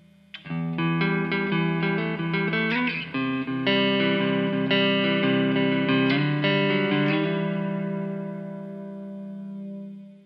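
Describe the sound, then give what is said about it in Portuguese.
An electric guitar played through the clean channel of a preamp with FV1 reverb strums and picks sustained chords drenched in reverb, notes ringing and blending into a lingering wash that slowly decays at the end, played alone with no voices. “Depois a gente passa pro reverb do FV1.”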